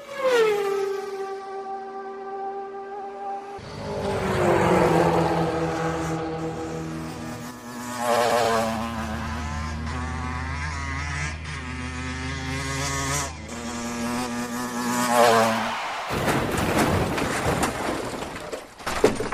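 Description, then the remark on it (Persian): A motorcycle engine whines and revs, its pitch rising and shifting for about fifteen seconds, then a loud, harsh burst of noise as the motorcycle crashes near the end. “چی بابا این موتوری اینجا تصادف کرده؟”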